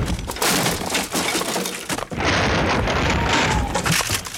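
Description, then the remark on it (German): A wooden board is wrenched out of a prison door by ponies tied to the door with halters and pulling, with loud, continuous splintering and cracking in two long bursts separated by a brief dip, sharp snaps scattered throughout. No voices. “Endlich! Ein Brett ist raus.”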